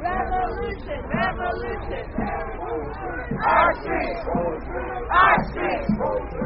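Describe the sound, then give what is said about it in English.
A large crowd of many voices chanting and shouting together in a loud, rolling babble, with rhythmic surges of collective yelling rising above the steady hubbub of protest marchers walking down Flatbush Avenue in Brooklyn toward the Brooklyn Bridge, led by families of people killed by police. “And the crowd is continuing to walk down Flatbush Avenue, headed towards the Brooklyn Bridge, led by the families of a number of the people who lost their lives at the hands of the police.”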